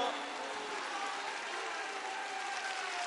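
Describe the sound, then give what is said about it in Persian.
Steady, dense applause from a large crowd, many hands clapping together at once, filling the whole moment at an even, sustained level with some voices mixed faintly into the noise, clapping along to a Persian religious chant celebrating the day of Ghadir. “کف کف کف کف صدا دست زدن تو فاطمه بشنوه.”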